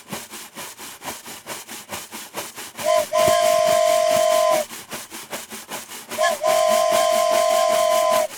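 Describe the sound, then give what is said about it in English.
A steam locomotive chuffs in a steady rhythm with hissing steam, then sounds two long, loud whistle blasts, the second following after a short pause. “Oh, this is a steam engine.”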